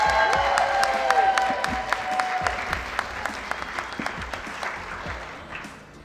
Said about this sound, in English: I have a live audience. This is a live Love Girls the Podcast episode. Can you guys cheer? Say hey.